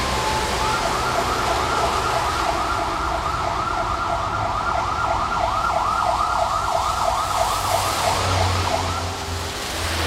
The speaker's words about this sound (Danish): Og det kan så godt være, at der stadigvæk kører ambulancer forbi ude på gaden.